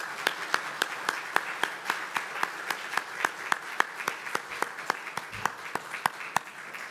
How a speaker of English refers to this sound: Can we give them a big round of applause, please?